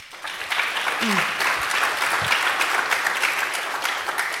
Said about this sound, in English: So big applause there.